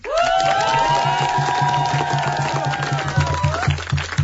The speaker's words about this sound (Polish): To są oklaski dla naszych bohaterów.